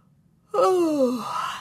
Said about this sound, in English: Oh, I'm bored stiff and yawn wide.